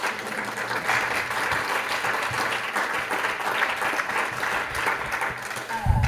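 A room full of people claps steadily, a dense, sustained wash of applause that holds at an even level for several seconds without any talking.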